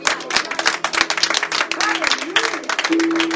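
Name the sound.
audience applauding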